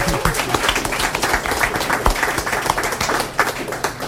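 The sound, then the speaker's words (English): A crowd applauds steadily, many hands clapping in a dense, continuous patter that stays loud and even for the whole stretch, with no voices rising above it. “And if you're not tired of clapping, and you shouldn't be, give yourselves and everybody else a wonderful hand.”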